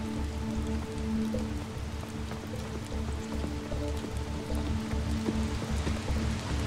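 Steady rain falls and patters on a surface, a dense, continuous hiss with scattered drop taps and a low hum underneath; no voices.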